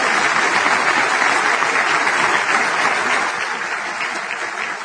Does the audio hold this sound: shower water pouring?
no